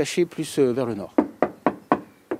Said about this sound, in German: klopft Nicolas Dumont auf den schwarz gestrichenen Bauch eines kleinen Flugzeugs